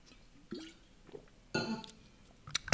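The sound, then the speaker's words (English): Someone takes a sip of water: a few soft, wet slurps and gulps with small mouth clicks, spread over a couple of seconds, with no talking. “Little drink of water here.”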